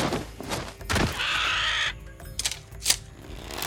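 A massive vulture with gold and blue feathers gives a loud, harsh, rasping caw, with a flutter and a couple of soft thuds as it lands on a path. No one speaks.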